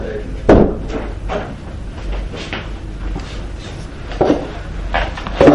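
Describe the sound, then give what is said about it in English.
A door swings shut with a solid thud near the start, followed later by a couple more knocking bumps, fairly loud. “Rabbi, do you mind closing the door?”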